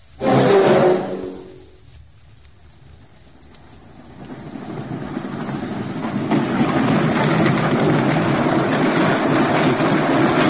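A train passes through a station: a loud, brief tonal blast at the start, a short lull, then a broad rumbling roar that swells and holds steady to the end, with no talking.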